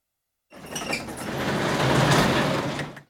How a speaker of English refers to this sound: Kingsley begins to close the garage doors.